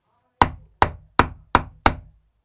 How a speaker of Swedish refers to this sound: De båda bönderna är så djupt engagerade i sina diskussioner att man till en början inte märker att någon bultar på ytterdörren.